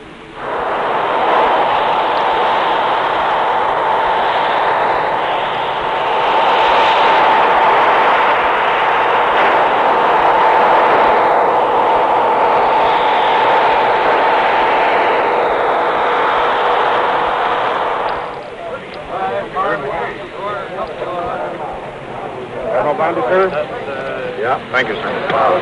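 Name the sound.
atomic bomb explosion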